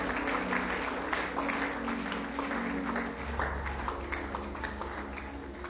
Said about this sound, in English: God bless you. Keep clapping. Celebrate God. Come on. Celebrate the Lord for souls.